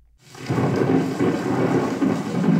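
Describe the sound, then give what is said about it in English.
A recording of thunder and rain from the Great Plains, played in the Hall of North American Indian at the Peabody Museum: thunder rumbles low and steady over a wash of rain, swelling in after a brief quiet start and holding loud and continuous throughout, with no voices. “Enter the Hall of North American Indian at the Peabody Museum, and you're greeted by a recording of thunder and rain from the Great Plains.”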